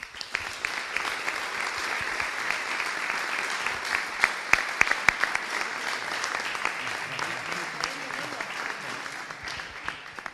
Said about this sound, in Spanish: Eso es lo que puedo decir, que nos apoye el Ayuntamiento para seguir adelante nuestro proyecto, que es tan importante, y sobre todo darle un fuerte aplauso a estos jugadores que se lo merecen todo.